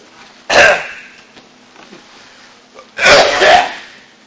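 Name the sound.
coughing fit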